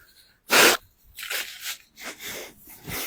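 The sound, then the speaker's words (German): Someone blows their nose: one loud, sharp blast of air, then several softer, rough snuffling bursts in an uneven rhythm, with no talking. “Und wenn ihr jetzt noch eine Frage dazu habt, ich bleibe jetzt noch ein paar Sekunden hier drin, dann kann ich mich nochmal in die Nase putzen.”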